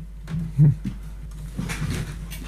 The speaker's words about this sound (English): Please stop squeaking in the chair.